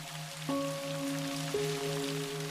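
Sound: raindrops falling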